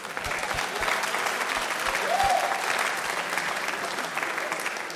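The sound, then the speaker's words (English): An audience at a slide presentation applauds steadily, dense overlapping claps filling the space, with a faint murmur of voices mixed underneath. “Clap.”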